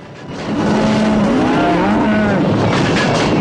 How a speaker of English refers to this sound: sprawled on the ground, sits up and shoots to ward off the approaching stampede.